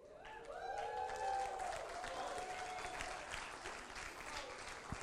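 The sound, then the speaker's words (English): A church audience claps in a dense, steady burst of applause that holds for several seconds, with a brief voiced cheer rising over it near the start. “For all of you that didn't clap and don't really know why everybody is clapping,”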